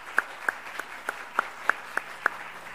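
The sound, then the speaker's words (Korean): Steady, evenly paced clapping from the audience at a church youth department ceremony: about eight sharp, crisp claps in a regular rhythm, moderately loud over a faint background hum, with no talking. “예, 뜨거운 박수 부탁드리겠습니다.”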